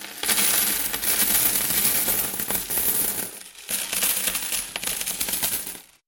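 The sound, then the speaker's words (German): A dense, continuous shower of metal coins pouring and clinking together, loud, with a brief pause midway before the jingling cascade resumes and then tapers off. “Die Swiss Mint prägt dieses Jahr sage und schreibe 160 Millionen Münzen.”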